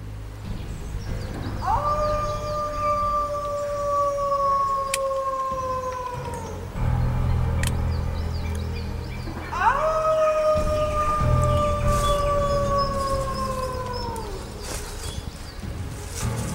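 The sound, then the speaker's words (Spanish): Wolves howl in two long, sustained wails, each rising sharply then slowly sliding down over several seconds, separated by a brief pause, with a low rumbling backdrop and no voices. “El grito de los lobos se elevaba en el aire estancado del invierno y flotaba alrededor de las murallas con lamentos sostenidos y desgarradores.”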